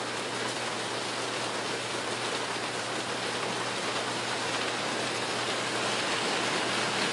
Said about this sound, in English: You can't even really hear my pencil sound over the... It's blended into the sound of the rain.